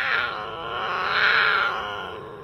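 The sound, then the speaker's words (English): A cougar growls in one long, continuous, raspy vocalization that swells slightly in the middle. It is fairly loud, with no talking. “Their vocalizations include growls, hisses, and bird-like whistles.”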